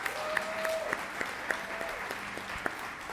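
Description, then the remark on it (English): An audience at Theater in the Woods claps steadily for the backstage crew, a dense wash of applause with scattered sharper individual claps, moderately loud and continuous throughout, with a faint tonal hum running underneath. “As a matter of fact, before I go any further, let's give a warm round of applause for all the people working backstage to make these productions happen.”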